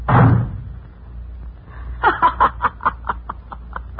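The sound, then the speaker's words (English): A door is slammed shut on someone with one loud, heavy bang at the start. After a short quiet pause, someone breaks into a rhythmic run of snickering chuckles that gradually taper off. “The old goat slammed the door on you.”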